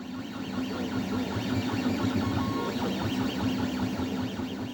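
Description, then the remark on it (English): A 3D printer named Gutenberg ("Goot") runs steadily at a public presentation, its stepper motors whirring and whining in rising and falling sweeps over a constant mechanical hum, continuous throughout, with no voices. “over to see the 3D printer in action.”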